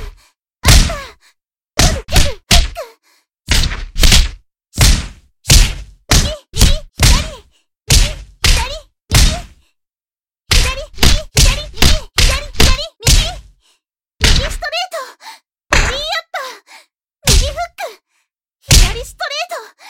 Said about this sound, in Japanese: 私のパンチなんて効かないとでも言いたいんですか？必死ですね。